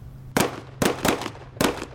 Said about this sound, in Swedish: Och så hör han då skott.